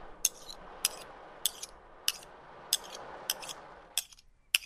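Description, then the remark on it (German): Metal scraping and clinking as pirates clean their sabres: sharp, bright metallic strokes about every half second over a steady hiss, with no voices. “Sie putzten ihre Säbel.”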